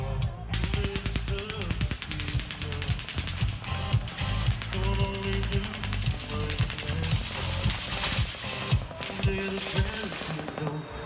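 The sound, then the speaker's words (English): Automatic machine gun fire at the Route 91 Harvest Music Festival, a country music festival, rattles off into a crowd of thousands of fans in long, rapid bursts of sharp cracks, nearly continuous for about eleven seconds, with steady tonal music sounding underneath. “Machine gun fire, possibly from an automatic weapon, erupting into a crowd of thousands of fans.”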